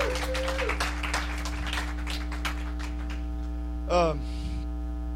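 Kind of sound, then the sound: crowd, audience applause and cheering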